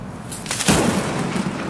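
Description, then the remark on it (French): A sharp, loud thunderclap from lightning strikes in a storm by the Pic Saint-Loup: a few crackling bursts build into a heavy crack, then a dense, rumbling roar that holds steady to the end. No one speaks. “Là, ce que t'entends, c'est les coups de foudre.”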